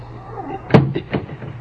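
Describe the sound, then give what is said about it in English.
A heavy trap door slams shut with one loud wooden thud, followed by a couple of softer knocks and rattles as it settles, over a low steady hum. “They close the trap door, he said.”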